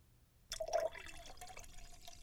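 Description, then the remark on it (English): Wine glugs and splashes as it is poured into a glass, starting abruptly with a bright, ringing pour and settling into a steady trickle, with no voices. “Because why pay $20 a glass when you can get 60 for, like, I don't know, 65? I'm counting taxes here. Speaking of, pour me another”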